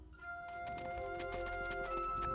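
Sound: horse-drawn carriage hooves clip-clopping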